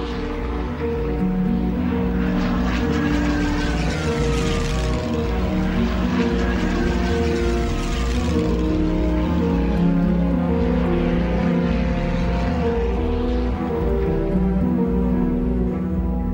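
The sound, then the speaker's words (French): A loud, steady drone of propeller aircraft engines from airlift planes flying over a city, with harmonic tones slowly shifting in pitch as they pass overhead, the rumble continuous throughout. 225 planes shuttle back and forth daily, holds full of food, consumer goods and mail. “Le bruit au-dessus de la ville est infernal. Tous les jours, 225 avions font des allers-retours permanents, les soutes pleines de nourriture, de biens de consommation, de courriers, 6700 hommes sont mobilisés.”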